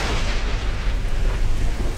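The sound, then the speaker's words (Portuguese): Loud, continuous wind roaring and buffeting through an open car window, with a heavy low rumble and rushing hiss that surges slightly in waves throughout, with no voices. “Fecha um pouco a janela que tá muito vento.”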